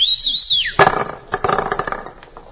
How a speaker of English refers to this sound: Wait, let me whistle at him. I'll whistle, let him know we're here.